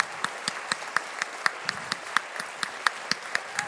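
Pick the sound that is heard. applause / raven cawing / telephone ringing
applause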